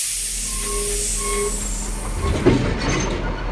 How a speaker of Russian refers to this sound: Состав качнуло. Лязгнули оковами вагоны, и поезд, ухнув от натуги, медленно-медленно пополз.